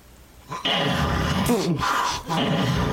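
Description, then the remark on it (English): A loud, rough snore fills nearly the whole clip, a rattling, guttural rasp with growl-like vibration that dips briefly before surging again. “Play the big-ass snore.”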